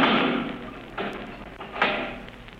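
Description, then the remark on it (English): A heavy steel door slams shut with a loud, echoing crash as it is locked, followed by two more metallic clunks as it settles and latches. “You can lock that steel door, Kelvin.”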